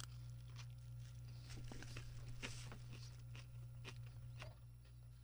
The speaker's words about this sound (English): I'm chewing.